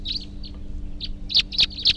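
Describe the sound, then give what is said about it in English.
A bird, recorded as bird 340, type 3, chirps repeatedly in short, high-pitched notes. The chirps start softly and grow louder, with three strong chirps toward the end over a low steady hum. No one speaks. “There may be wild birds coming around here now.”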